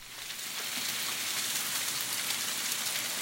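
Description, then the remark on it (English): Sleet falling steadily in Blacksburg, Virginia, on February 17, 2019, a dense, even hiss of tiny pellets pattering on surfaces, with no voices and no change in intensity throughout. “You heard sleet falling in Blacksburg on February 17, 2019”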